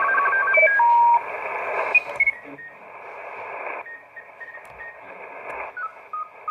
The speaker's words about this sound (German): Und das da drüben, das sind Funkamateure. Da ist jemand am Morsen voraussichtlich. Direkt.